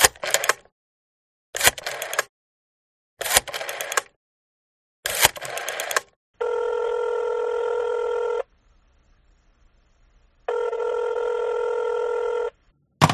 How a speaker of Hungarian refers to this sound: felemelte a telefonkagylót, és lassan 7 számot tárcsázott.